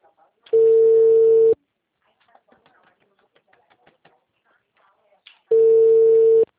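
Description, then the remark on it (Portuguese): A telephone busy tone after a call dropped because the phone's battery died: two loud, steady, low-pitched beeps about a second long, separated by a few seconds of faint rustling and clicks. “a ligação caiu.”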